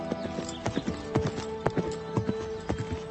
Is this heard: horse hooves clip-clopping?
yes